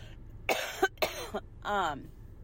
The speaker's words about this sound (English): I'm going to cough again. So sorry.